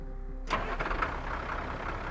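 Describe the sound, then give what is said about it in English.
A farmer's pickup truck engine cranks and catches at about half a second on a farm in Skidmore, then settles into a steady, rumbling idle, with no voices. “Romaine Henry drove his truck around the farm until he saw what he knew to be Ken McElroy's green pickup parked alongside the road.”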